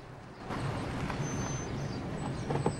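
vehicle, car driving

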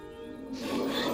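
human body sound, sniffing

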